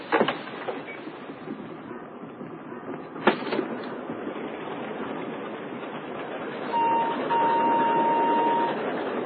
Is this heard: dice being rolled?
no